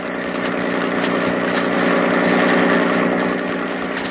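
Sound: motorboat engine running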